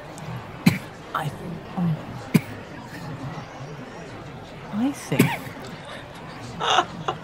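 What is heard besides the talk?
coughing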